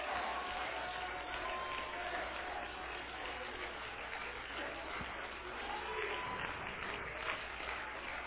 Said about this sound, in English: I want you right now to clap your hands and go down clapping your hands. If you're able to sit down, sit. But if you want to stand, stand.